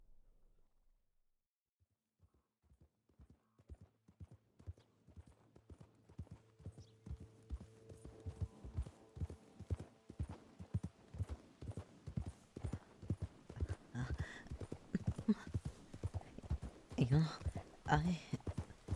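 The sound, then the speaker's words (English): Horse hooves clip-clop at a steady walking rhythm as a horse is ridden on a nice evening with the sun still out, starting faint and growing louder over nearly twenty seconds, with each hoofbeat a sharp, distinct knock. “I feel like I'm still unsure about how to sit on a horse.”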